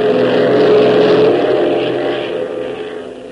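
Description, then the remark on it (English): A Beech propeller plane's engine roars at full throttle, opened to the last notch as the plane speeds ahead at top speed, a steady loud drone with a strong low hum and broad buzzing overtones, easing slightly in loudness toward the end. “As though in answer to Tank's pessimistic outlook, Hop opens the throttle to the last notch, sending the Beech roaring ahead at top speed.”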